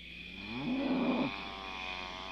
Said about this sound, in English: They don't sound right. I'm not really sure how cows are supposed to sound. Not like that. Yeah, something is very wrong up there.